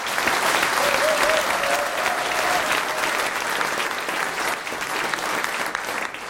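Loud, sustained applause from an audience fills the whole stretch, a dense steady roar of clapping with a faint whistle or cheer rising briefly early on, holding strong before easing slightly toward the end.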